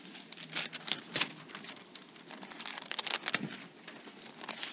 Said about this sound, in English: That sound of turning pages. I love that. Get rid of that phone and those apps. Just use your Bible. I love that sound. Until they make your phone make that sound when you turn, like it sounds like a Bible turning.